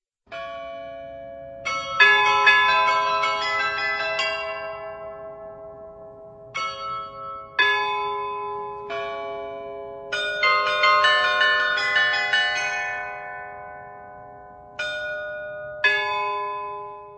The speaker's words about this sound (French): l'un des plus beaux complexes baroques de Prague, non loin du château de Hradčany, ancien lieu de pèlerinage connu aujourd'hui notamment pour son carillon qui non seulement mesure le temps, mais qui joue aussi des airs appréciés par les passants.